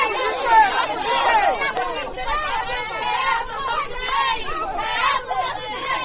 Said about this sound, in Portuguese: Uma gritaria à beira dos portões, com seguranças atentos ao desenrolar dos acontecimentos, 72 horas após a primeira manifestação, igualmente acompanhada pela Voz da América.